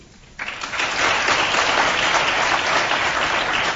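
A crowd breaks into sustained applause after a brief quiet moment, voting by applause on whether the item about the smallest nuclear genome is the fake; the dense clapping rises quickly and holds steady and loud for several seconds.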